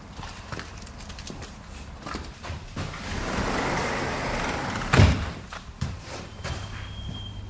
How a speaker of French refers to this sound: C'est ici pour s'habituer aux voitures qui passent. On n'est pas dans le calme de la campagne.